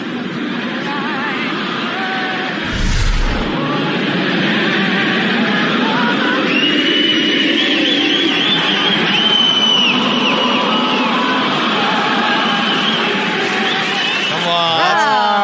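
A huge, mostly Canadian stadium crowd sings the national anthem together, taking over the rest of the song after the singer's mic cuts out, thousands of voices blending into a loud, steady roar of melody that carries on without pause.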